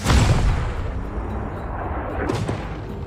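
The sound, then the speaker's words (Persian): A loaded cannon fires at a far-off target with a heavy, deep boom at the start, then a long low rumble rolls on, broken by a second sharper crack shortly before the end. “از توپا فاصله بگیرین و آتش!”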